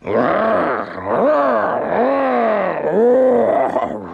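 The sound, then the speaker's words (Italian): A human voice imitates a tiger roaring, letting out about four long, swelling growls in close succession, loud, with no other sounds around it. “La tigre, appena vide Sudi, fece un balzo e cominciò a ruggire.”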